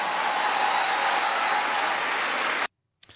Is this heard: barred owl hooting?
no